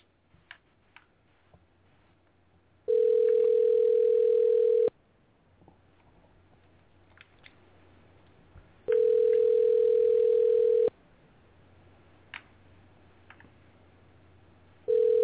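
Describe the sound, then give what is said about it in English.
The ringback tone of an outgoing phone call that has just been dialed repeats: three long, steady mid-pitched buzzes about two seconds each, separated by roughly four-second pauses filled with faint clicks and low hum, with no one speaking. “So here we go. We're dialing and.”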